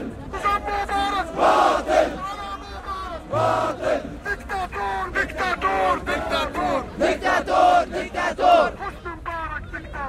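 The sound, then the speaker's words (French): A large, jubilant crowd, with people on army tanks embracing soldiers during the uprising against Hosni Mubarak on 29 January 2011, chants and cheers loudly, many voices rising together in rhythmic, shouted bursts that carry on without a break for the whole stretch. “On assiste à des scènes de liesse, sur les gens, sur les tanks.”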